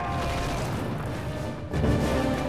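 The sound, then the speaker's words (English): Soldiers charge castle gates with a battering ram: deep, heavy booms over a steady roar of clatter and noise, with a brief lull before another forceful crash near the end. “They look over the walls to see soldiers charging the gates with a battering ram.”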